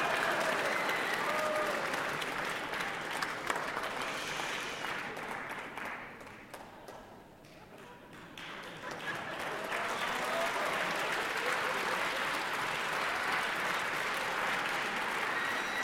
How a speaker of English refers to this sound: If you don't stop clapping, she's gonna make me sing the next tune, and I do not want to do it.